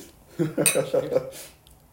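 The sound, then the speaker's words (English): A brief, bright clink of glasses touching in a toast, ringing once amid murmured voices and a faint clatter of tableware. “Cheers.”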